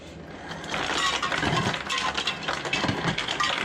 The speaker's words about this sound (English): You can see that the refrigerator is turned on if I wanted to get ice.